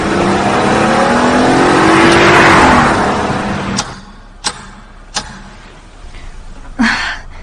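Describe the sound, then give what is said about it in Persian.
A car engine revs loudly, its pitch climbing as it pulls away, then the roar drops off abruptly, leaving a few sharp clicks and knocks in the quieter aftermath. “بهتره یه مدت خونه من بمونید و از این ماشین استفاده کنید.”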